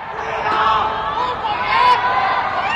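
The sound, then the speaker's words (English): Residents of Chengdu, China, confined to their homes under a COVID lockdown during the mid-autumn festival, call out together from their windows in a steady, loud crowd chorus, with overlapping shouts rising and swelling without pause, no single voice standing clear. “Residents in locked down Chengdu have been calling out from their windows.”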